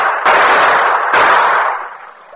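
Two loud gunshots ring out about a second apart, fired at a young man jumping from a ledge into a river below. Each sharp crack trails into a long, rough, hissing decay that slowly fades, with no voices.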